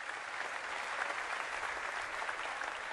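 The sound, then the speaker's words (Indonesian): Steady applause for the Zainul Hasan pesantren (Islamic boarding school) from a crowd, a dense wash of many hands clapping at an even, sustained level for the whole stretch, with no voices standing out. “Tepuk tangan buat pesantren Zainul Hasan.”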